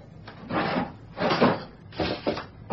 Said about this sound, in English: So what's with opening the desk drawers? You're looking for a 12-inch midget? I do not simply look for the man, but for clues, for evidence.